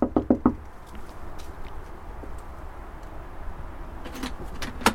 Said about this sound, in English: So I'm just going to knock on the door and see what he has to say for himself.